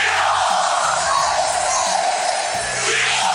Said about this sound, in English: College football is a game of sights. All the band is out on the field! And sounds. Caught by Westbrook for a touchdown! From screaming fans